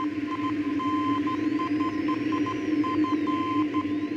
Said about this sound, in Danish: Ja, det er elektricitet. Altså, det er drevet af elektricitet. Hvis du har en ledning, ja. Så kan du sende en strøm og et bip, og det bliver til telegrafen og Morse.